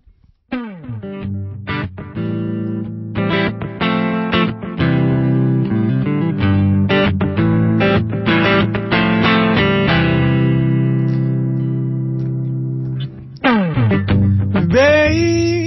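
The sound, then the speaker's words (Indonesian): An instrumental stretch of a soul song cover played by two musicians: loud, steady effects-laden chords ring out in a slow groove, ending with a rising, bending tone. No voices are heard. “Adalah order dari saya untuk cover satu lagu yang mereka berdua suka juga”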